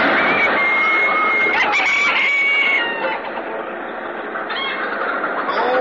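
A flock of chickens in coops beside an old silo clucks and squawks continuously, dense overlapping calls with a few drawn-out crowing-like cries, loud, with a low rumbling background underneath.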